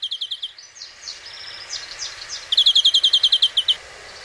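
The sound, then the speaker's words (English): A European greenfinch sings alone, moving from a quick run of bright chirps into varied twittering notes, then a loud, rapid trill of repeated chirps before it stops. “The European greenfinch is a species common in whole of Central Europe, inhabiting both urban and rural landscapes.”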